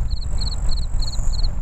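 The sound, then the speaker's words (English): Crickets chirp in steady, evenly spaced trills, each a quick cluster of high pulses, over a low outdoor rumble at the end of the Suncoast Parkway. No one speaks. “Not much here, but a lot of crickets.”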